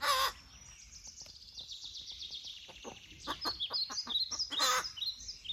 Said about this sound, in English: one of the few crows in the world that can cackle like a chicken. When he's looking for food, he will cackle.